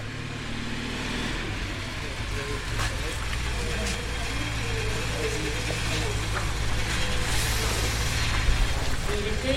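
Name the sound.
passing car traffic noise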